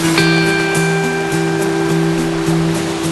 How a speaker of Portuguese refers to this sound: 45 toneladas de água por segundo em queda livre. As cataratas Shomyo são as mais elevadas do Japão. Mas o som da água aqui mais parece um sussurro do que um estrondo.